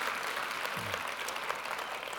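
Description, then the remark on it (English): An audience at the White Flag church service claps in a steady round of applause for a pastor who filled in the previous week, a dense wash of many hands crackling evenly throughout at moderate loudness, with no voices rising above it. “If you appreciated him, would you give him a round of applause?”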